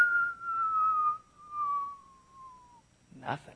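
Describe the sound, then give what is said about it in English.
A single long whistle slides slowly downward in pitch for nearly three seconds, imitating a rock dropped into a deep, dark hole, then stops, followed by a brief burst of vocal noise. “So they grabbed a rock and leaned over the edge and dropped it in.”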